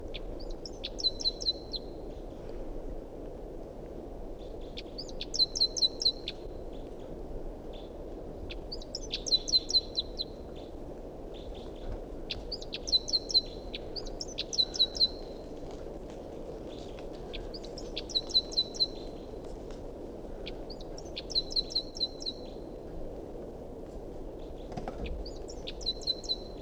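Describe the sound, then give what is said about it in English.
A wild bird calls repeatedly in short, high-pitched bursts of rapid chirps, each phrase lasting about a second and recurring every few seconds over a steady low background hum, with no talking. “Recording a wild bird.”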